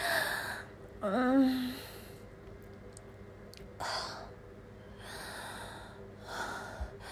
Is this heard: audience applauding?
no